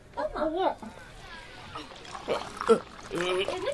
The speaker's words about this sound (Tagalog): Naibuhos na po namin ang 4 na tapayan sa handog, kaya't basang-basa na po ito.